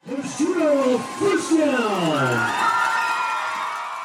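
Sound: football crowd cheering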